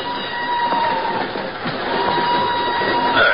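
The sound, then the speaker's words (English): A northbound passenger train rolls steadily along the rails out of Lisbon, a continuous dense rumble with a faint hum running through it and brief metallic squeals near the end, heard from inside the car without any voices. “An hour later, she's aboard a northbound train rolling out of Lisbon.”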